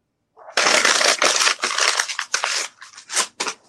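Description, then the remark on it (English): Paper is ripped and crumpled: a loud, sustained crackling tear followed by several shorter rustling, crunching bursts as it's balled up. No one talks. “Why are you wasting paper, bro?”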